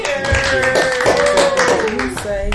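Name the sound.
group applause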